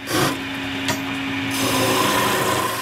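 Steady, coarse scraping as a man in a small doll-making workshop hollows out a bark-stripped lindenwood log, about 4 inches thick and 18 inches long, with long metal chisels on a lathe. A constant low motor hum runs beneath a hissing, rasping grind that swells slightly toward the end.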